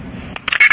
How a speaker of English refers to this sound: When you make a phone call, you put a quarter into a phone and it makes a sound, and that tells the phone company that you put in a quarter, and the sound sounds like this.